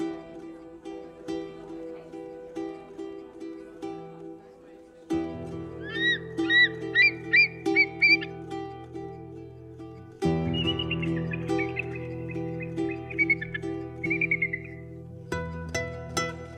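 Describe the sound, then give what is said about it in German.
Eagles, kites, gulls and hooded crows call in the Feldberger Seenlandschaft as they swoop, dive, glide and snap at fish, over a steady, droning musical background: a run of five or six sharp, repeated cries, then a long, wavering whistle-like call that trails off, fairly clear. “Heranrauschende, mächtige Adler, blitzartig herunterschießende Milane, elegant herangleitende Möwen und nach Fisch schnappende Nebelkrähen.”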